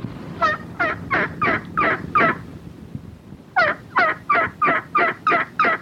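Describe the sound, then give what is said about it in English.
Two loud bursts of an imitated turkey gobble at a turkey calling competition in Memphis, each a quick rattling string of six or seven throaty pulses, separated by a brief pause. No one talks over it. “The turkey calling competition was held this weekend in Memphis.”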